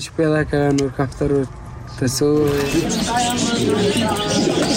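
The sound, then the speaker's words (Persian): Colourful pigeons in cages coo in a run of short, throaty repeated calls at the bird-selling lane (Kafaroshi lane) in Kabul, then busy market bustle with indistinct voices and general crowd noise. “کوچه کافروشی محله فروش پرنده ها در کابل هم مثل گذشته پر جنب و جوش نیست.”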